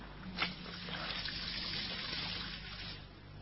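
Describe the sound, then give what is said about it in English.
Water is poured into a glass in a steady trickle for a few seconds after a brief clink at the start, tapering slightly toward the end over a low background hum. “So sit down. I'll get you a drink of water.”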